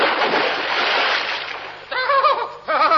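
A loud, rushing gush of splashing water surges up for about two seconds as drilling through the base of a pillar box in London reaches the underground River Walbrook, then gives way to excited voices chattering and laughing.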